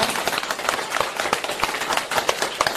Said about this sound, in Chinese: 鼓掌